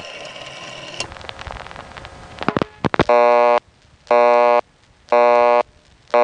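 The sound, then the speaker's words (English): An old-fashioned telephone busy signal from the Lynbrook exchange, of a kind still containing the old-fashioned dial tone retired in 1965: after a few seconds of clicking and mechanical switching clatter, a harsh, buzzy tone pulses on and off about once per second, four loud bursts. “Next, of course, I wanted to hear another busy signal which was rather near and dear to me, the one which still contained the old-fashioned dial tone that I'd grown up with, but had been retired in 1965.”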